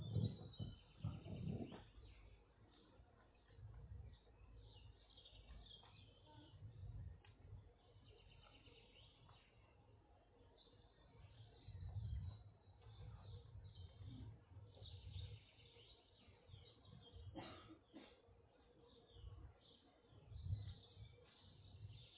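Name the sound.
birds chirping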